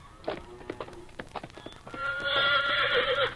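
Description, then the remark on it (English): Hooves clip-clop in a quick uneven series of sharp knocks, then a horse lets out a loud, sustained whinny that rises and wavers for over a second. “Nice looking horse you got there.”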